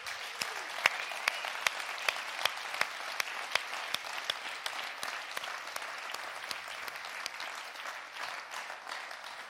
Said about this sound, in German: Und ich möchte euch mal bitten an der Stelle, lasst uns Gott mal einen Applaus geben für die Geschichte, die er mit uns geschrieben hat.